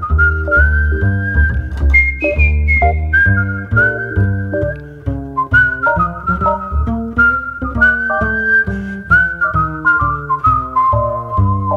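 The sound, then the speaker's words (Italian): An Italian whistler whistles a flowing melody of long, sustained notes, clear and prominent over a full instrumental backing that plays steadily underneath; a famous whistle of the 1960s. No one speaks. “è il fischio più famoso degli anni 60”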